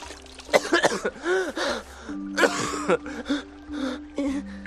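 Someone coughs and sputters after thrashing through water and pulling himself up onto a branch, in a rapid series of harsh, wet bursts, broken by strained gasps and choking breaths, as if clearing water from the throat.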